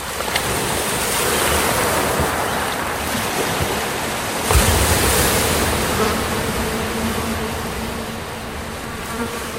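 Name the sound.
sea waves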